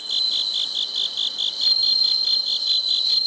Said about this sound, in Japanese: 秋も深まり、虫たちの鳴き声もより深みを増しています。仙台市の虫としても知られるスズムシ、自然ではなかなか見つけることが難しくなりましたが、そんなスズムシを飼育している岩切市民センターにお邪魔して鳴き声を録音させていただきました。